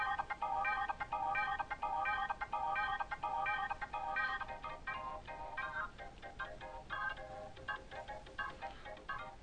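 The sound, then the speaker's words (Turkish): An electronic instrument plays a bright synthesized pad sound called Icarus Sirator in a steady repeating pattern, then shifts to looser, more scattered notes. The sound is fairly loud, with no voices. “Icarus Sirator diye bir şey bu. Part 1 pad.”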